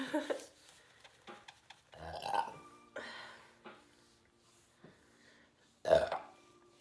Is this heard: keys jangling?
no